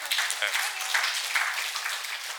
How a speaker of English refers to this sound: You can sit over here with me, because, well, I give her a round of applause, because she was very nervous about sharing that.